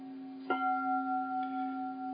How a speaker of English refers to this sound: This bell rings for Prajna Paramita, the mother of all Buddhas. This bell rings for Kuan Yin, the goddess of mercy and compassion.